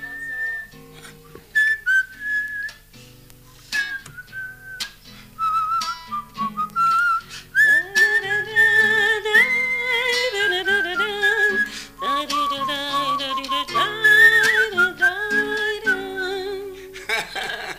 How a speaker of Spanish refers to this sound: Es verdad que es re argentino el silbidito en la... Sí, medio tanguero.